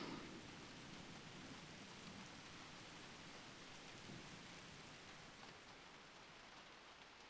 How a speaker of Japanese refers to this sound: 雷が止んだかな。